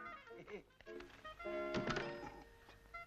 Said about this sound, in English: I thought I heard the front door. So did I.